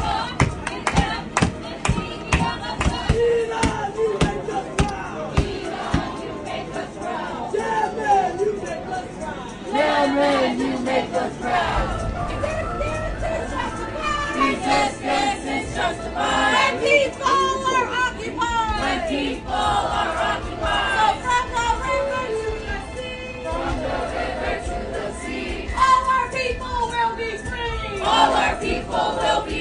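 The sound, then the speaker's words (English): A protest crowd chants loudly in a New York subway, many voices shouting together in a steady rhythm, punctuated by sharp claps or stomps that continue throughout. “And so this is a New York subway. Listen to them.”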